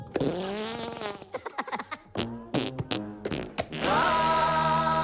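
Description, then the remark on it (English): A rapid series of loud, buzzy fart noises made by Minions in disguises after they present food storage containers to women: a long wobbling blast, then a flurry of short sputtering bursts, ending in another sustained, drawn-out raspberry. “Minions in disguises present food storage containers to women, then make fart noises.”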